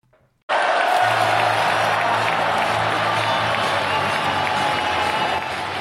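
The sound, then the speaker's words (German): Football fans roar and chant in a dense, sustained wall of crowd noise, a low rhythmic sung chant pulsing underneath, starting abruptly after a brief quiet moment and staying loud throughout. “Mit diesen Jubelgesängen begrüßen wir euch ganz herzlich zur 90. Folge von Hoffefunk nach unserem furiosen 5:1 gegen Holstein Kiel.”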